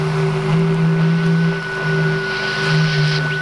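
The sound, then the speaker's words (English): Radio signals said to come from Venus: a steady electronic drone of layered humming tones over rushing static, swelling and ebbing gently throughout, with no voices. “There, do you have any idea what you're listening to? London Philharmonic? It's Venus.”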